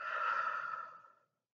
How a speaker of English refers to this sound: We will start with a few deep inhales through the nose and loud exhales through the mouth. Inhale. Exhale. Inhale. Exhale.